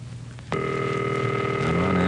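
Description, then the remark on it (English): A telephone line rings over a call connection: after a brief low hum, a steady electronic ringback tone cuts in and holds clearly to the end, with no one speaking. “Wait for the busy signal. I'll watch that. Sure. It's ringing?”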